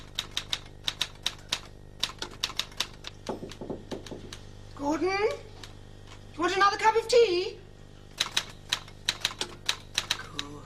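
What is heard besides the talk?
typewriter typing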